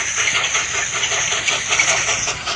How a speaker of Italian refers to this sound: ha ripristinato il treno a carbon nella tratta Legnago-Rovigo. Senti, senti.